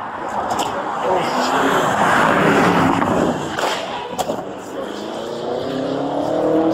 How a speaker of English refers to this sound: You can hear this Porsche coming.